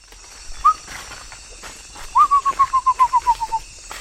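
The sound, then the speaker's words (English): A bird sings a single short whistled note, then a descending series of about ten evenly spaced, clear whistles that gradually drop in pitch, over a steady buzzing insect chorus in the Brazilian Amazon jungle under a high canopy, in the evening. “Oh, something good singing here.”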